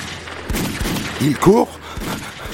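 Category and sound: sound effect, gunfire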